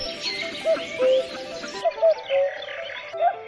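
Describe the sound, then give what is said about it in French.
A cuckoo calls its falling two-note "cu-coo" about three times, soft and hollow, while other birds twitter and chirp higher in the background. “Le coucou est l'oiseau qui dit son propre nom.”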